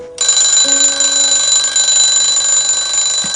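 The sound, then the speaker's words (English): A woman's alarm clock rings loudly in the morning, a harsh, steady electronic buzz that starts abruptly and keeps sounding without a break until she shuts it off. No voices are heard. “shuts off her alarm clock, then feels her brow and looks at the morning sky.”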